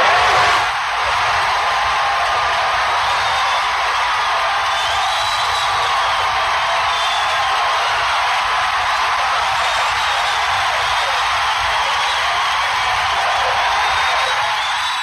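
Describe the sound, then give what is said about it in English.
A crowd applauds and cheers without pause for about fifteen seconds, part of an ovation for a man said to last about ten minutes. The dense, steady wash of clapping holds loud and even, with a few shrill whistles and whoops rising above it. “And watch how long listen to how long the response is to him. Yeah, it's almost the applause.”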